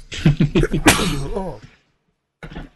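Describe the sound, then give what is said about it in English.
A loud, close sneeze right into the microphone from a person with a cold: a few short gasping breaths build up to one sharp, explosive burst that trails off, followed by a brief pause and a faint vocal sound. “I didn't get to the sneeze button fast enough.”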